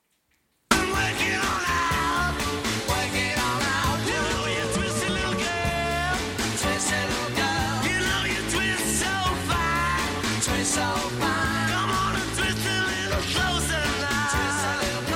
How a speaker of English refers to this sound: Listen to this guy screaming these bars, bro.